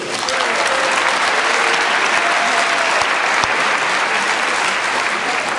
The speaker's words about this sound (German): Jetzt wünschen wir dem Spieler Nummer 2 viel Erfolg. Applaus bitte.